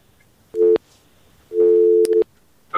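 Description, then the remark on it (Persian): A telephone busy tone sounds in loud, steady beeps at a fixed mid pitch after a listener's call to a phone-in program drops: one short tone, then a longer one, then the start of another, with no talking. “خب قطع شد.”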